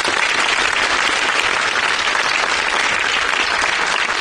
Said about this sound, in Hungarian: Felveszünk egy tapsot, és azt majd a gyengébb poénok után odavágjuk. Akkor arra szeretném kérni önöket, hogy háromra hangosan tapsoljanak velem. Egy, kettő, három.